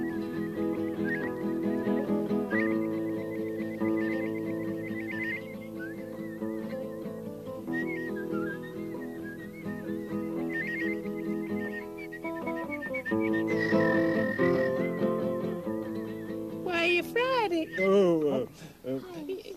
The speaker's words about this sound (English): Any kind of music you give to me, I can provide the whistle. Perhaps something classical.